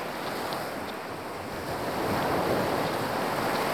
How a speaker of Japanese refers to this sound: 海の音がしてきましたね。もう間もなく福木並木の折り返し地点、備瀬海岸が見えてきます。